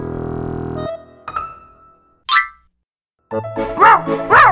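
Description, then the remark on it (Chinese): A small dog named Doudou yips and barks in a quick burst of high, sharp cries near the end as it steps in urine and falls onto its back, following a brief springy sound effect, with no talking. “小狗豆豆踩到米米的尿，摔了个四脚朝天。”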